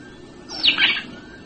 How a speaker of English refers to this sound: It's the Cape sparrow. The Cape sparrow giving its flyaway call, not when disturbed. You have male and female sitting together, and all of a sudden the one says to the other, goodbye, and he flies away.